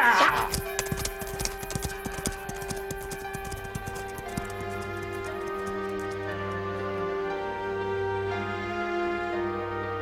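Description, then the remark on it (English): Horse hooves clip-clop in a quick rhythm, loud at first, then growing fainter as the horse taken from Revere is ridden away, over a steady, sustained musical backdrop. “Take his horse and let's go.”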